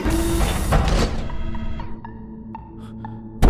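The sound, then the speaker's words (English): A locked mechanical lab door whirs and clunks briefly without sliding open, followed by a short series of electronic warning beeps spaced evenly apart, then a final thud at the end. “Door's locked. Computer, what's wrong with the lab door?”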